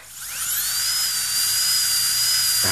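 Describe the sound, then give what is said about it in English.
A high-pitched dentist's drill whines steadily, its tone rising as it spins up and then holding a piercing, sustained pitch, loud, with no talking. “But the eerie sound of the dentist drill could be a thing of the past.”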